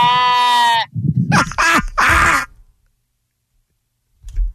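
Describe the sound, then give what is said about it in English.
A person imitates a sheep, loudly: one long steady bleat followed by two or three shorter, quavering bleats, then silence and a faint low thump at the end. “You could give me the braying, the baying sheep, the buying sheep, wherever how you want to call it.”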